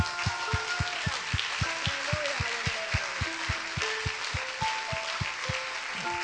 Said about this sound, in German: Ihr Lieben, lasst uns dem Herrn einen Klatschopfer geben. Juhu! Halleluja!